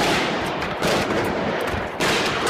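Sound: gunshots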